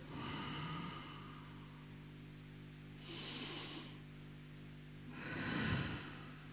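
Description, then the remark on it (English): Slow, deep breathing: three long, airy breaths in and out, with the last one the loudest, and no talking. “Take a deep breath. Again, yeah?”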